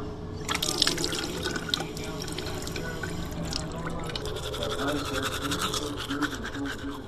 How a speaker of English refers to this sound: So I've got a morning routine in my house. The first thing I do when I get up in the morning is I brush my teeth.